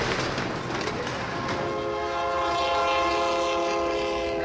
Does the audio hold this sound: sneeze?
no